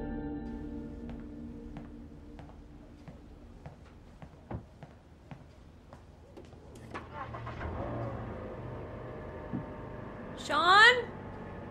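A series of faint clicks gives way to a car engine starting up and rumbling, followed by a brief rising whine as the car reverses down a driveway, moderately loud.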